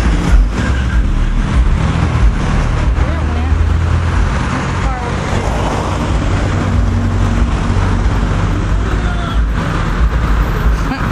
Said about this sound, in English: There's one right in front of us as well. And in front, yep. I can barely hear the one in front, though. Very quiet. The minivan. Okay. There's, you can hear the truck. And there's the cars going straight across.